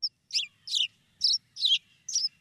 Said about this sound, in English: The song of the sparrow there.